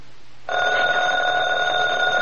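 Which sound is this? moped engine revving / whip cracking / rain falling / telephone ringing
telephone ringing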